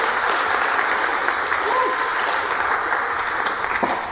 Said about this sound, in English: So can I please have a shout out and a round of applause for my friend